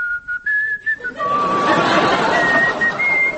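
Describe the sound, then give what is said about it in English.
A person whistles to imitate an arrow whistling past: a few short, clipped tones, then a longer wavering whistle over a loud burst of rushing, hissing noise. “Suddenly, an arrow, cleverly portrayed by …, whistled by my ear.”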